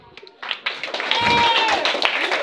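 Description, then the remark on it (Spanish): An audience breaks into applause to welcome an arriving guest; it swells quickly and holds at a steady, dense level, with excited voices and cheers mixed into the clapping. “Ya viene, le damos un aplauso.”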